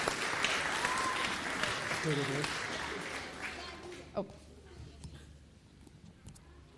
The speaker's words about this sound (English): So let's give them a round of applause for that as well.